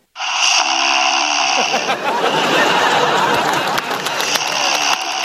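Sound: loud snoring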